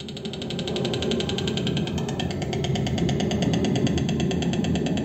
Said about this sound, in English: Doesn't that sound wonderful? That's the clicking of the bills. They do a lot of that when they're on the nests.